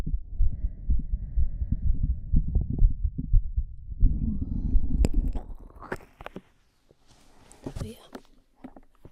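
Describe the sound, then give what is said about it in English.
A muffled heartbeat thumps steadily and quickly for several seconds, then gives way to rustling and scraping handling noises with brief sharp clicks. “think my heart rate has gone up?”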